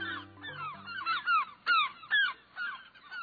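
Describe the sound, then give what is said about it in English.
A gull drifting across the sky calls repeatedly, giving a series of loud, nasal, downward-slurring yelps in quick succession, with no voices. Faint low sustained tones fade out at the very start. “Look at that gull drifting across the sky.”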